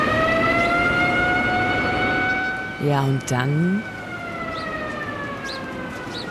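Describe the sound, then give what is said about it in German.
Several sirens wail at once across a city, in long, sustained tones that hold steady and overlap throughout, while a voice briefly speaks over them partway through. “Und auf einmal sind da überall Sirenen zu hören.”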